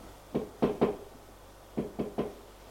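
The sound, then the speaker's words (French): Soft knocking on a young woman's bedroom door: two quiet groups of three raps each, separated by a short pause, gentle, with no voices. “Frappe à la porte tout doucement.”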